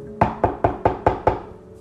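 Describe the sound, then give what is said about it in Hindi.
Six firm knocks on a wooden house door in the dark, evenly spaced in a quick steady rhythm, fairly loud with a short resonant decay after each rap. “वो उस घर के पास तक गया और घर के दरवाजे में खटखटाया।”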